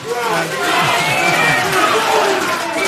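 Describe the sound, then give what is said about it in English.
A large crowd cheers and shouts for Leeds boxer Josh Warrington ahead of his fight with champion Lee Selby, a dense, steady roar of many overlapping voices that stays loud throughout the few seconds, with individual yells rising briefly above the mass. “We've got a fine champion in Lee Selby against Leeds' own Josh Warrington, and you're allowed to cheer for Josh Warrington.”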